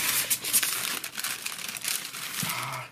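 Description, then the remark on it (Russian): Continuous crinkling and crackling of a plastic packet of dry ice being handled after it came open, dense and fairly loud for about three seconds, with no voices. “Открылся пакетик, да. Сейчас давайте мы его закроем.”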